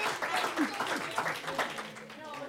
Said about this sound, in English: A little bit of applause.